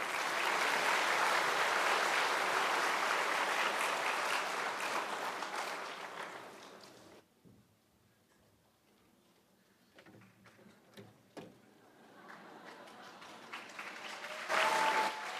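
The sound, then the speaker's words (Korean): An audience at a concert claps loudly and steadily for about seven seconds to welcome a soprano and baritone duet, then the applause thins and fades into near quiet, with scattered small knocks and shuffles before a brief swell of sound at the end. “네, 큰 박수로 맞이해 주십시오.”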